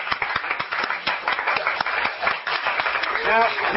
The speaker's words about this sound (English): Yeah, let your Christ self clap.